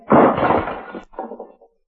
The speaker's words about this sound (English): Somebody hit the table and the lamp crashed to the floor.